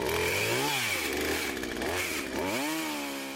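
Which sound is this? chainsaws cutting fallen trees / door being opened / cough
chainsaws cutting fallen trees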